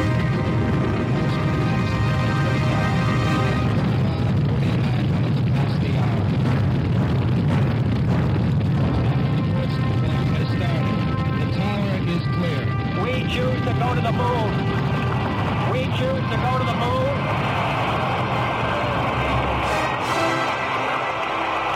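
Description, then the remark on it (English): Rocket engines roar at launch, a loud, continuous, rumbling blast with heavy low-end power that holds steady for the whole stretch, crackling and shaking as it goes. “We have ignition sequence start. Engines on. 5, 4, 3, 2. All engines on.”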